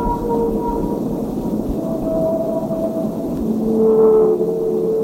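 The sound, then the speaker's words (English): Recorded whale songs: long, drawn-out tonal calls that slide and hold over a deep, rumbling underwater wash, one moan swelling louder near the end. No voices are present. “And it squirted water out the roof, and we had recordings of whales singing.”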